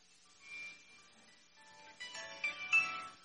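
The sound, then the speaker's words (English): A smartphone ringtone plays a short melodic sequence of bright electronic tones, quiet at first and getting louder toward the end, even though the phone had been turned off or muted, with no one speaking. “And this is my phone again.”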